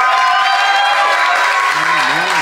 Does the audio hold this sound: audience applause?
yes